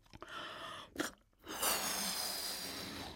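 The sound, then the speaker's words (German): Someone blows into a balloon: a few short, breathy puffs and a sharp intake, then a long, steady rush of air that hisses on to the end. “Und ich habe hier zum Beispiel einen Luftballon, in den puste ich mal rein.”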